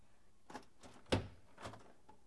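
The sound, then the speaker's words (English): A door swings shut with a soft sliding rustle and then a single dull thunk, followed by a faint scrape, all fairly close and quiet with no talking. “Let's close the door.”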